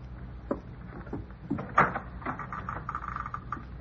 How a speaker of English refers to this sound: Door isn't locked. Good. You're in.